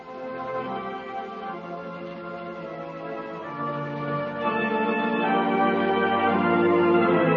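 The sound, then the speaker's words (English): Chimes at a children's home ring out five o'clock in steady, overlapping tones that blend and sustain without pause, growing slightly fuller and louder toward the end, with no voices over them. “I didn't know the children's home had chimes.”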